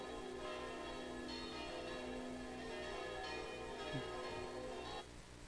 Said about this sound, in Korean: 들리세요? 이렇게 칩니다. 거리가 그냥 종소리로 가득해요. 막 떠나가라고 칩니다. 그래도 아무 말 하지 않습니다.